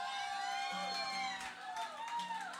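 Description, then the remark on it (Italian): A crowd cheers and whoops loudly for a couple of seconds for a performer during a stage changeover, high sustained voices rising and falling over a dense wash of noise, with little sign of clapping. “un bel applauso anche per lei.”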